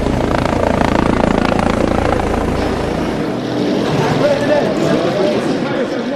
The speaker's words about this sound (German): Doch einmal im Jahr wird sie empfindlich gestört, dann, wenn Hubschrauber über dem Kurort kreisen.